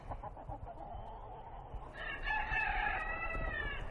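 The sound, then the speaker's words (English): A rooster crows once, a loud drawn-out call that starts about halfway through and holds to the end over a low, steady outdoor background rumble. “We live near Langley with chickens and a house painted a million different colors by my parents, who are artists.”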